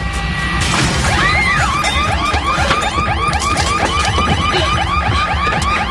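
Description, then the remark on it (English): A sharp crash of a door being smashed in by a man, followed at once by a loud electronic home security alarm whooping in rapid, repeating rising-falling sweeps that continue steadily to the end, from a Brinks Home Security advertisement. “He just smashed in my door.”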